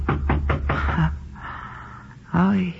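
Four firm, evenly spaced knocks on a door ring out close by, followed by a soft breathy sound and a brief startled vocal exclamation.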